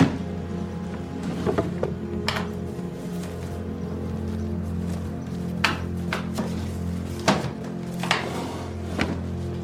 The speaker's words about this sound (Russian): Подходит к столу. Открывает один ящик, второй. Перебирает бумаги.